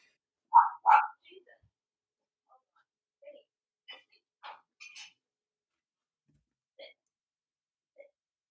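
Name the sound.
dog barking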